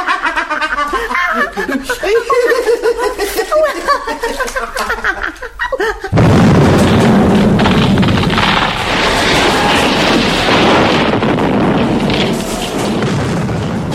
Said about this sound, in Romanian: Majestate, majestate, Dumnezeule, iar a fost o explozie.